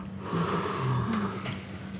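A person yawns audibly, a drawn-out breathy exhale with a low, wavering voiced groan, moderately loud, lasting a couple of seconds with no talking.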